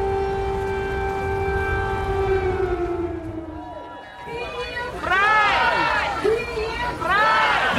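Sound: air raid siren wailing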